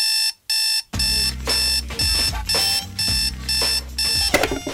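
An alarm clock rings loudly: two quick electronic beeps, then a steady pulsing blare that repeats in regular bursts with a harsh buzzing edge, with no voices.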